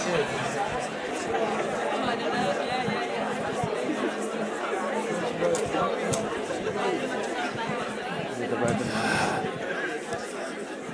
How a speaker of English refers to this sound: Okay, it's great to hear the buzz of conversation.